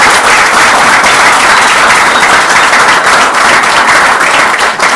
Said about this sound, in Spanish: Y yo quiero pedirles que les demos un fuerte aplauso a los compañeros y compañeras.